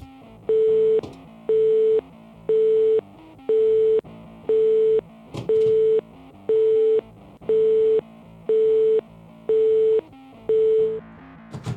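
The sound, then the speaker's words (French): A telephone busy signal repeats steadily, about eleven short even beeps at a regular pulse, clear with no voices, as a call attempt fails to connect. “Alors, je vais réessayer de l'avoir au téléphone tout de suite.”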